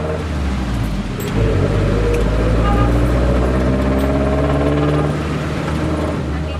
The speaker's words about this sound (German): In einem wackeligen Jeepney, als in einem dieser farbenprächtigen, langgezogenen Jeeps, die so typisch sind für die Philippinen, geht es durch das Verkehrschaos von Los Baños.